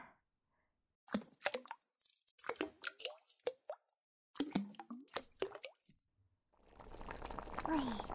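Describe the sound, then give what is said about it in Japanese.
A series of wet plops and splashes in three quick clusters as ingredients such as seawater, a mermaid fin, a hermit crab shell, apple, island moss spice, secret herbs and giant catfish whiskers drop into a cauldron of seafood soup, followed by a steady bubbling hiss of the pot simmering. “海水と人魚のヒレとヤドカリの殻、リンゴと島ゴケのスパイス、秘伝薬草にオオナマズのヒゲを入れて煮立ってきたら火を止めてと。”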